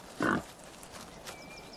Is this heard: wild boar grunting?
yes